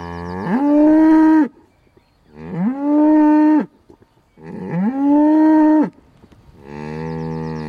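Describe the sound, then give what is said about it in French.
A herd of Highland cattle moos loudly in a series of four long, drawn-out calls, each a low, steady bellow with rich harmonics and short pauses between, with no talking. “C'est mon troupeau de Bœufs Highland.”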